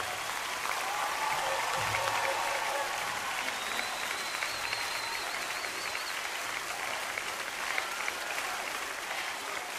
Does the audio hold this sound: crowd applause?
yes